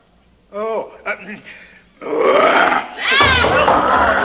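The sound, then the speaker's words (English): An actor's voice imitates a lion's roar: a few short guttural growls, then two long, loud, raspy roars, the second one swooping up and down in pitch. “Well mouthed, lion.”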